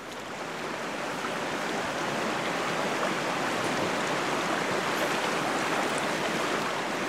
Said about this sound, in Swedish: Vi fortsätter på tema vatten och tar oss till en å.